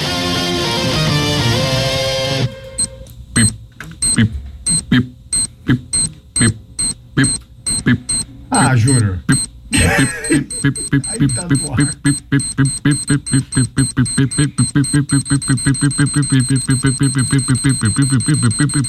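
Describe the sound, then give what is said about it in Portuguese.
A loud electronic beeping sound effect like a ticking time bomb counts off in steady pulses and then speeds into a rapid, insistent alarm run, after a brief burst of busy sound at the start. “Bomba relógio aqui no Resenha.”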